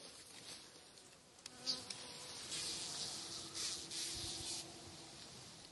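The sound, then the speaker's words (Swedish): An irritated bumblebee, just tagged by researchers and being released back toward its nest, buzzes with a steady, slightly rising drone, its pitch wavering as it moves, heard alone against a faint outdoor background. “Och den är lite irriterad. Den surrar och...”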